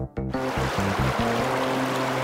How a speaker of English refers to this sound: Sounds like the flow of a river.